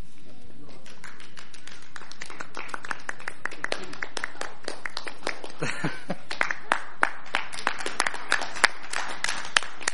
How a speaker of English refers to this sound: Actually, I'm not the one who deserves all the clapping on this. Actually, the work team worked very hard on this, so it's really them that deserve the clapping. But thank you.